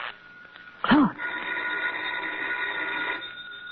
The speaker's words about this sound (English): What? The phone.